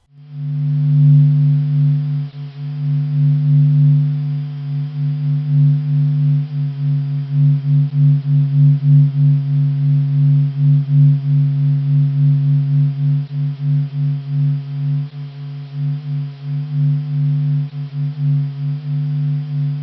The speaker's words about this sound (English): physicists have processed radio signals from the sun and produced audio files. The sun vibrates with a hum that goes up and down every 5 minutes. Stanford scientists call it the singing sun.